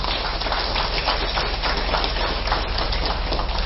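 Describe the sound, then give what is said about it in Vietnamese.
A large crowd applauds loudly and steadily, in gratitude to Zen master Thich Nhat Hanh and Most Venerable Thich Minh Chau. It is a dense, continuous patter of many hands clapping that holds at full strength for the whole stretch, with no voices heard. “Thì nhân dịp này đó, chúng ta cùng mà ghi ơn công đức to lớn của thiền sư Nhất Hạnh và trưởng lão Hòa Thượng Thích Minh Châu bằng một tràng vỗ tay thật là lớn.”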